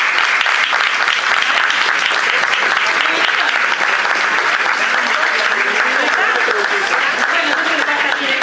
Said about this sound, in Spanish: Un aplauso para ellos.